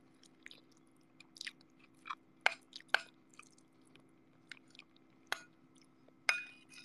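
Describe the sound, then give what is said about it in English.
Wet chewing of a big mouthful of food, an omelet with crunchy onions, with irregular crunchy and squishy bites and smacks over a low steady hum; no one speaks. “Okay, let me take a big bite of my food.”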